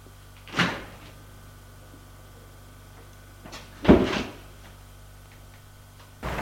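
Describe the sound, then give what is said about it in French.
A sharp latch click as a door in an empty entrance hall is unlocked with a key card, then a few seconds later a louder clunk and rattle as the door is pulled open, over a steady low electrical hum. “Longe couloir, le hall vide, et ouvre la porte avec une carte.”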